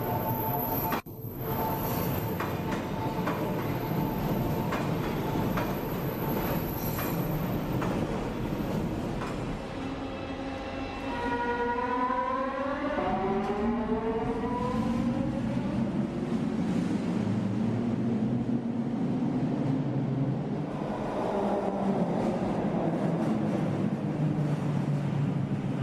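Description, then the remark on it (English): A Scarborough RT (SRT) rapid transit train in Scarborough, running between Kennedy and McCowan, rumbles and rattles loudly and steadily. Midway its wheels let out a series of wavering, wailing high-pitched squeals that slide up and down before fading back into the drone. “If you haven't heard of what a whale sounds like when it gives birth, wait till you hear the SRT.”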